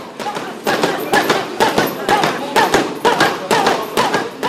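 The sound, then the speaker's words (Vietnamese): Punches, grappling and chokeholds land in an MMA gym in France, founded by Mathieu Nicour in 1995, with about 200 registered fighters: a rapid, irregular series of loud, sharp impacts, one after another for several seconds, with muffled voices beneath. “Những cú đấm vật đòn xiết vang lên gần như là mỗi ngày.”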